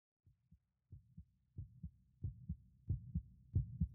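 A person's heartbeat thumps in steady lub-dub pairs, low and muffled, during a hug, growing gradually louder across about six beats with no voices present.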